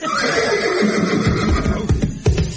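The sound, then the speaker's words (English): A voice imitates the neigh of a female unicorn, a long, wavering whinny held loud for a couple of seconds, breaking into a few throaty snorts at the end. “Especially if anyone makes a noise like a female unicorn.”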